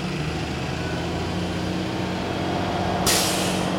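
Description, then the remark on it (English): A heavy diesel engine rumbles steadily, then a loud, sharp hiss of air brakes bursts out near the end as a school bus picks up children down the street to go to school, early in the morning around 6:40. “It's picking up the kiddies to go to school.”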